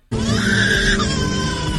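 A baby cries in one continuous, loud wail, high-pitched and strained, holding steady before the pitch shifts slightly downward near the end. No one speaks.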